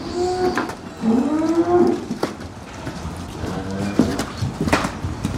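Dairy cows moo in a barn with a milking robot: two drawn-out, low, rising calls in the first two seconds, then a steady background of rustling and faint clatter with a few sharp knocks.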